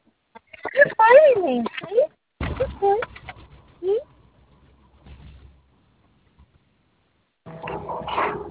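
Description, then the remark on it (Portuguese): A dog whines in a few high, wavering, pitch-bending cries, with short pauses between them, followed by quieter rustling and a burst of noise at the end. “Tá chorando, cachorro.”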